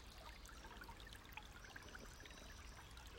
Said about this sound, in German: Im Hintergrund hörst du das Wasser plätschern